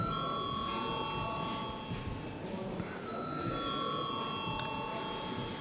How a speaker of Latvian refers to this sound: Deputāti prasa balsojumu, lūdzu zvanu.